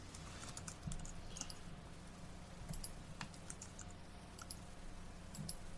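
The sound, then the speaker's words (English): Rapid, irregular typing on a computer keyboard as someone types out a baseball lineup, crisp clicks scattered over several seconds, moderately quiet against a low steady background hum. “Yeah, I'm typing it out so I don't miss anyone.”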